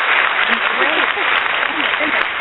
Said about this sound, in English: The applause is necessary. Yeah. What is that? Awesome. The applause is necessary.